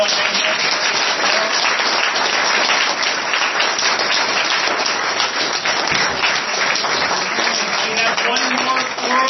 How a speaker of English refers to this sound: Folks, round of applause for...